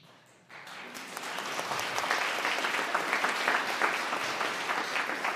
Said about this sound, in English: But the claps aren't for me. The claps are for the people who joined that community, who were just like me, desperately seeking community.